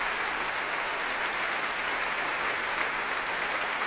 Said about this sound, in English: Applause here at the Royal Albert Hall for E-flat clarinet John Cooper. All the winds and brass on their feet, indeed the strings too, and Thierry Fisher enjoying the warm applause here of the audience.